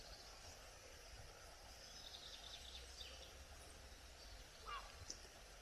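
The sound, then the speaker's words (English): Faint birdsong drifts through a quiet outdoor scene, with chirps over the steady rushing water of a stream and one brief, clearer call near the end. “And in the stillness, can we hear the water of the stream, the bird song?”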